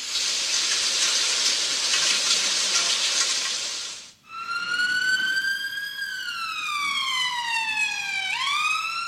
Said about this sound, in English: Siren. So it could be a fire truck, it could be.